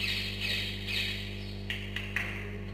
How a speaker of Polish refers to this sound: Co to jest? Ptaki ćwierkają.